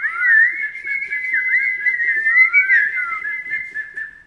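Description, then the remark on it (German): A continuous, warbling whistle imitating birds chirping cheerfully on a windowsill in the morning sun, trilling and sliding up and down in a bright mid-high pitch at steady volume for several seconds, with no talking. “Als er am nächsten Tag erwacht, scheint die Sonne durch sein Fenster und die Vögel zwitschern fröhlich am Fensterbrett.”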